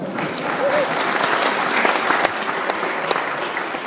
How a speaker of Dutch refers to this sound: Die zei van, ik vind dat jij ook al meer moet verdienen. Dat hoor je niet vaak, dus daar wil ik ook een applaus voor.